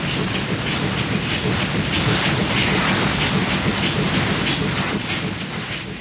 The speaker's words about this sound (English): With every throb of the engines, we sprang forward like a living thing.